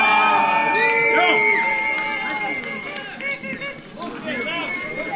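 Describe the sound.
A crowd at an outdoor village football match, with many overlapping voices shouting and calling out in a steady, excited roar that swells and dips, rising pitches of individual yells standing out over the din.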